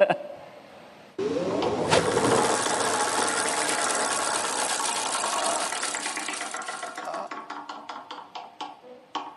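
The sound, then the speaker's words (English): A prize wheel spins with a loud, rapid blur of ratcheting clicks that gradually slows, the ticks spreading out into distinct clacks before it stops. “Okay, spin the wheel.”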